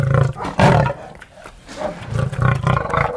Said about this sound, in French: Sultan montre les crocs, il a le poil luisant, il semble en excellente santé. C'est un lion âgé de 9 ans.